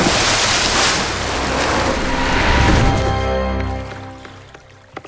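Water sloshes and laps steadily against thick, roughly hewn wooden pilings beneath a wooden jetty, a continuous wash with a low rumble underneath that gradually quiets toward the end. No voices are heard.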